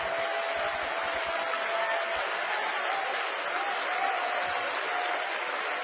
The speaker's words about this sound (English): Oh, we ought to praise Him. We ought to clap our hands. We ought to love Him.